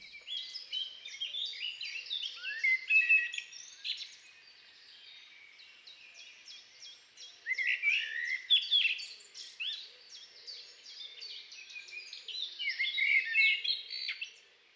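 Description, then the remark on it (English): A blackbird sings a long, varied song of warbling and chirping phrases, shifting in pattern as it goes, with brief pauses between bursts; clear, with no voices. “And blackbird has an entire repertoire which changes all the time.”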